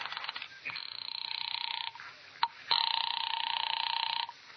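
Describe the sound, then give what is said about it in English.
A telephone being dialed to call the police: a steady, buzzing electronic tone broken by short bursts of noise and clicks, then the tone resumes, fairly loud, with no voices. “It's a good time to call the police.”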